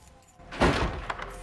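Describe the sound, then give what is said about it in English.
An apartment door is closed by someone entering, swinging shut with a solid thump, followed by a few light metallic clicks and rattles as it settles. “Peter enters the apartment and closes the door behind him.”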